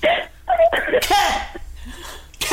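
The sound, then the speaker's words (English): A person coughs several times in short, harsh bursts, with throaty, strained vocal sounds between the coughs and no clear speech. “I'm coughing.”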